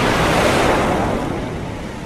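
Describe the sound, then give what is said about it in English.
A loud ocean wave of salt water, towering higher than a person's head, crashes in a dense roar of churning surf, the broad rushing noise easing slightly as the water spreads out. No voices. “I turned to see what they were pointing at and met a face full of wave, a concrete block of salt water towering higher than my head.”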